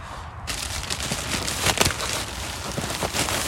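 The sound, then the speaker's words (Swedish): Straw being pulled out of a bag, with some old compost at the bottom, to build a compost heap makes a continuous crackling rustle with scattered sharper crunches, beginning after a brief quiet moment and carrying on steadily without any talking. “Du har tagit upp den här påsen med halm.”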